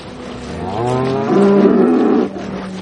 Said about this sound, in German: Auf der Weide vom Bauer Andreas Bucher zu Rhein sind rund 50 Kühe friedlich am Grasen.